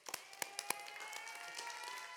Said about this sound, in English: Give them a round of applause one more time.